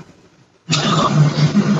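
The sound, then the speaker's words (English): After a near-silent pause, a train's loud, broad rumble sweeps in abruptly and holds steady, a low droning hum running beneath the roaring noise until the end. “I'm just going to wait for the train to roll through.”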